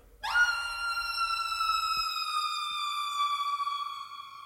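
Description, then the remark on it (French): An ondes Martenot lets out a loud, piercing electronic wail that swoops up sharply and then holds a shrill, steady cry for about four seconds, mimicking a horrified scream. No one speaks. “Un cri d'horreur.”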